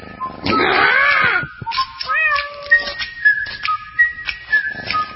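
A single drawn-out cat meow rises and falls near the start, followed by a series of thin, wavering whistle-like tones. No one speaks.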